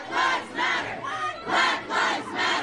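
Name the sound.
protesters shouting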